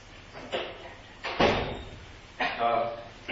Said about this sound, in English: Did we not close this door?